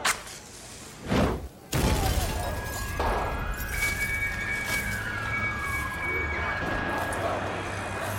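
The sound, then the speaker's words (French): A continuous high-pitched whistling alarm, likely from a Eurobank branch in Greece that was blown up and whose alarm has not been stopped, holds a thin, steady tone for several seconds over a bed of outdoor street noise. “Une sifflante derrière, une sifflante permanente, c'est sans doute un signal d'alarme de cette banque qui n'a pas été arrêtée depuis que cette banque a sauté.”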